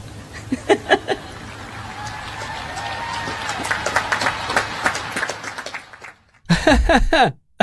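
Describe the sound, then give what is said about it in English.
Scattered, polite applause from an audience following a speech line about Marines preferring a rolled-up solar panel to 20 pounds of batteries: a thin patter of claps over a low murmur, ending with a short, denser burst of clapping. “And then you hear sort of polite applause.”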